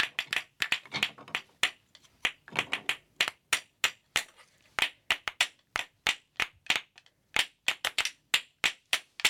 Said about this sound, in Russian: Смотри, у нас с тобой получилась песенка. Замечательно. Вот так вот ложкари и играли на ложках. Такая музыка и получалась.